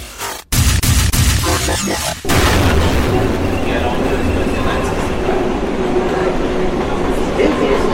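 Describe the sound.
A New York subway train rumbles loudly and steadily, with a dense low roar and rattling, after a brief cut and a burst of clattering at the start; voices murmur beneath the noise.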